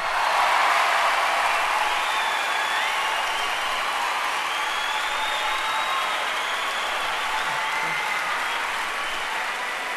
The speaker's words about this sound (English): Before I even get started, I want to say, how about a big round of applause